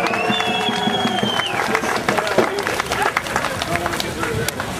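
crowd clapping and cheering

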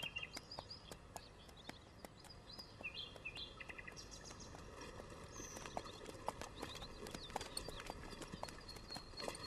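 horse hooves clip-clopping

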